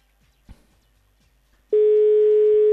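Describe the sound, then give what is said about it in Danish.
A steady, loud telephone ringing tone begins about a second into the quiet and holds continuously to the end, preceded only by a faint click and low background hum, while calling the pizzeria La Belinda in Brønshøj. “Så prøver vi at ringe, og det er så mig, der har fået opgave.”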